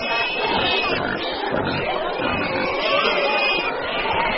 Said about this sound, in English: The Toka Festival celebrates the end of warfare between rival clans, and pigs are at the center of it. To attend, each village must bring some to the party. And that's a lot of pigs.